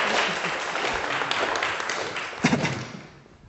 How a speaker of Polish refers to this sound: Dobrze. Dziękuję. Wielkie brawa dla mojego... Dzięki.